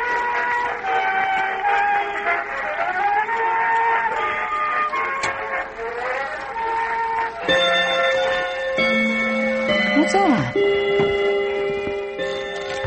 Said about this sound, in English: Three o'clock? Well, wasn't it 3 o'clock just 5 minutes ago? Oh, I love that old clock of mine. Old bone white clock with the gold angels round the face.